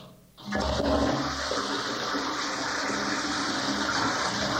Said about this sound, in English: The next time you flush the toilet, think about the fact that what comes out of your body could be used to heat a whole community, but not without a considerable initial financial outlay.